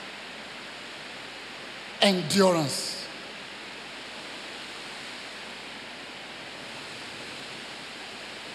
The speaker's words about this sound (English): What a nice rain.